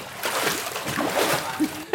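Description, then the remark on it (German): Continuous sloshing and splashing of water from people swimming in a swimming pool, with a short tonal burst near the end; no clear speech. “Und ihr hört's wahrscheinlich schon, heute aus dem Wasser begrüßen wir euch mal wieder. Wir sind in einem Swimmingpool.”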